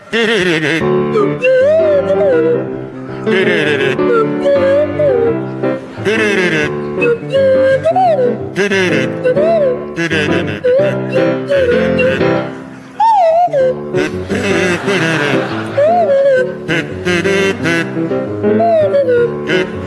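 Barry Cryer plays a buzzy kazoo and Graham Garden a swooping swanee whistle in a bouncy, comic tune together, the whistle sliding up and down in short glides over steady rhythmic accompaniment, loud throughout.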